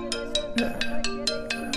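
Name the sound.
mobile phone ringtone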